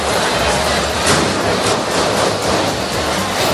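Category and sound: impact, gunshots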